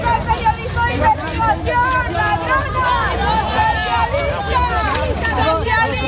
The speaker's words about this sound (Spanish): Leire llegó a los juzgados entre gritos de corrupta.